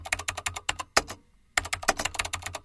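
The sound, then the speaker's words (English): Rapid clicking of keys on a computer keyboard, crisp, in quick irregular bursts with a short pause midway before the typing resumes. “This is the keyboard.”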